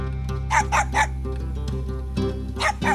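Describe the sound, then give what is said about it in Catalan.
A dog barks in short, sharp bursts: a quick run of three barks, a pause, then two more, loud over a steady low background hum, as it is being fed. “Dono menjar al gos.”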